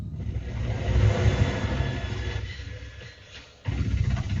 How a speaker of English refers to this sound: It's a helicopter.